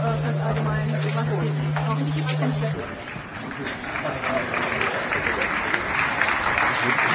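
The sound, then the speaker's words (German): An audience applauds steadily and continuously to welcome a group of guests, a dense wash of clapping that fills the whole stretch, with a low electrical hum underneath for the first few seconds. “Ihr habt am Applaus gemerkt, dass ihr wirklich willkommen seid hier.”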